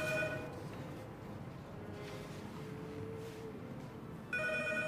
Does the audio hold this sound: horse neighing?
no